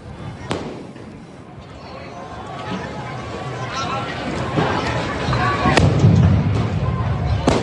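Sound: firecrackers exploding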